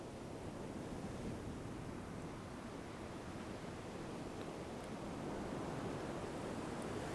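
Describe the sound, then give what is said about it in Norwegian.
Steady ocean surf washes in and out on a beach with a broad, hissing roar, the waves blending into a continuous rumble that swells slightly toward the end. No voices are present. “Du hører nå lyden av bølgene som ruller inn og ut.”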